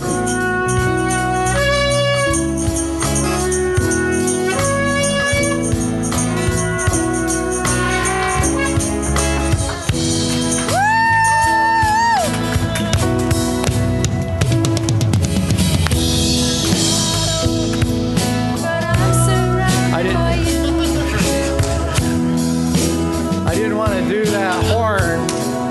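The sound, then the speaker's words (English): A borrowed shofar sounds loud, sustained blasts with bending, wavering pitch, played over a dense, steady musical backing with layered instruments throughout. “every one of those shofars has a different mouthpiece, so it's really difficult to switch from one back and forth to the other”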